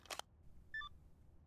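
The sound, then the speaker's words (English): A sharp click is followed by a brief, quiet electronic tone, like a single phone keypad beep as someone dials a phone, with no one speaking. “Oh, please don't pick up.”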